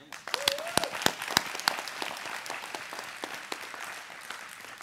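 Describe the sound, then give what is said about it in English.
An audience applauds, many hands clapping in a dense, irregular patter with a few sharper claps standing out, steady in loudness before easing slightly toward the end. “Give them a clap again.”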